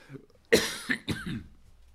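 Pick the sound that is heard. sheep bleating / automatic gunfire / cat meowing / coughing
coughing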